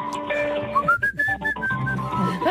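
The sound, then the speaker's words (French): A person whistles a short, bouncy jingle melody, the pure tone stepping between several notes in quick succession, clear with a faint background underneath. “Quand je vais faire mon petit pipi à 3 heures du matin, je siffle ça tout seul, sans m'en apercevoir dans mon sommeil.”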